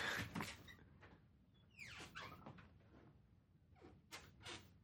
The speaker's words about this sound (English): Three steps out of the room and shutting the door.